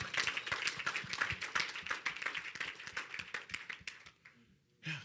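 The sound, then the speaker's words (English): A church audience claps for the Lord Jesus, with dense overlapping hand claps forming a loud, steady burst of applause that thins out near the end before a final brief swell. “Clap for the Lord Jesus.”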